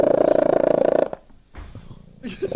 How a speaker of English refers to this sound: congratulations to Tracy Westwood of Devon, England, whose cat Merlin has gotten the Guinness Book of World Records for being the loudest purring cat in the world.